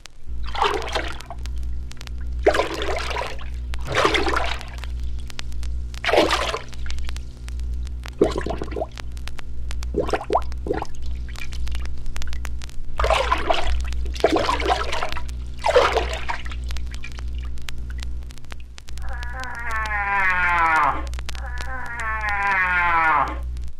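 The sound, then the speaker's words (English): Water splashes and sloshes in a slow, steady sequence, like a large animal wading, with loud bursts every second or two, followed near the end by a drawn-out, wavering voiced call; water is emptied from a horn into a lake or river at a varying rate to imitate a cow moose moving in the water. “All these sounds, well performed and in proper sequence, give a perfect imitation of a cow moose moving in the water.”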